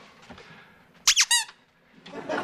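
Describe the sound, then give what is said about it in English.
A dog's squeaky toy lets out three shrill, high-pitched squeaks in quick succession as someone tries to get the toy from the dog, the last one slightly longer, with soft rustling and muffled noise before and after. “All right, this obviously isn't about the toy, is it?”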